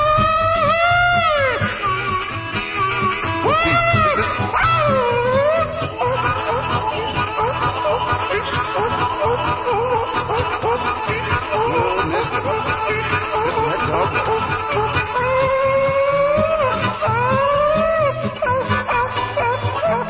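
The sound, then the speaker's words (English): A pack of hunting hounds bays and howls on a chase down a river bottom, long rising and falling cries overlapping one another in a steady chorus, with no talking over the muffled, band-limited recording. “Them dogs might run all night long.”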